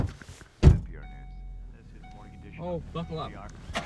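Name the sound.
getting into car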